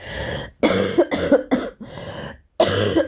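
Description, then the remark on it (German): A person coughs repeatedly during a live recording, a rapid cluster of harsh, loud coughs with short gaps, followed by one more burst after a brief pause. No talking. “Entschuldigt, dass ich ab und zu husten muss, aber das bleibt leider jetzt nicht aus.”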